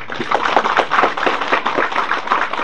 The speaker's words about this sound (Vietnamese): Ở đây các vị nghe pháp rất là nhiều, cho tràng pháo tay.